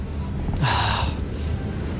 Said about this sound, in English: Stop and sniff. Take your time now. A big whiff.